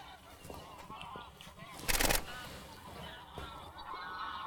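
A flock of geese honks frantically in overlapping, agitated calls, with a sharp, loud burst of noise midway through and the alarmed honking continuing around it.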